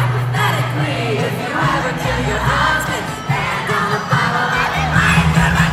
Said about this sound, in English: And she said her favorite moment in the set list is when the crowd gets completely unhinged on the song we've got on the Country Heat playlist right now